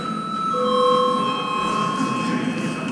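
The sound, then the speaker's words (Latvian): A parliament session bell, rung at the chair's request as a break is announced, sounds as a steady, sustained electronic tone with bright overtones, holding an even pitch and moderate loudness for the full three seconds over faint murmur. “Lūdzu zvanu.”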